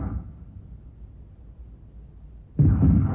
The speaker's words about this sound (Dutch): Matjes kloppen? Dat is geen matjes kloppen. Dit is weer schieten.